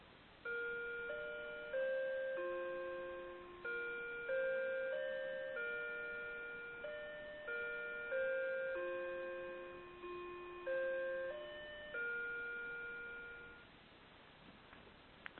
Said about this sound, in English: Okay. Just went all the way around the world. Well, that's beautiful. It's a beautiful chime, by the way.